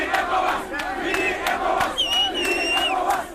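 A large crowd in Banjul, Gambia, cheers and shouts continuously as ECOWAS (CEDEAO) troops enter the capital, with high whistles and ululating cries rising above a dense, loud wall of voices throughout.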